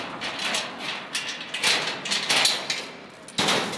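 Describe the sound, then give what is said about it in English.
A door of the abandoned former headquarters of Italy's fascist movement in Predappio, northern Italy, being unlocked: clacks and rattles of the lock being worked, then the heavy grand entrance door scraping open, with a sharp knock near the end and no voices. “A door unlocks, and the abandoned past a town would like to forget but can't opens before us.”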